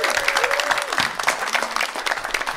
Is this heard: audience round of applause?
yes